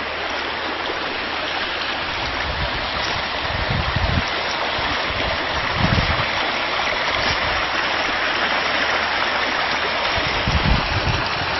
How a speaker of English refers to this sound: More waterfalls, many waterfalls.